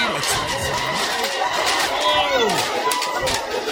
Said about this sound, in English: Oh. Holy cow. Look at the crowds.